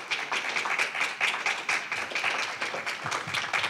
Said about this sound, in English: Praise God. Give him a good hand. Clap unto the Lord. Hallelujah. Praise God.